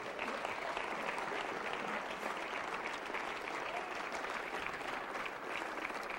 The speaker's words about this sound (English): Come on, clap your hand.